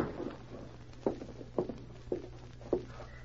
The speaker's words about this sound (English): In a small cabin on the outskirts of town, a woman paced the floor nervously. Her anxious expression looked strangely in contrast with her gay dancing dress and painted face. She stopped suddenly as she heard a light tap on the door.